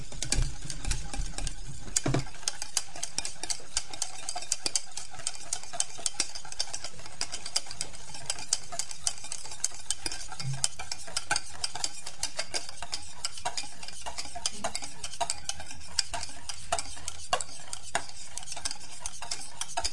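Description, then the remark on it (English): A metal whisk beats sabayon for strawberries in a small saucepan, stirred in circles and then figure eights, a rapid, steady stream of scraping clicks and light metallic taps that continues without pause, with no voices. “On va laisser ce bruit d'ustensile le matin.”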